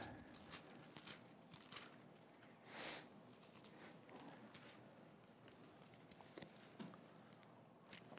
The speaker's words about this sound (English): Can you guys hear my sniffles magnified, or is it just me that hears them? I'm sorry. I'd blow my nose, but it would be worse, and it would come all over again.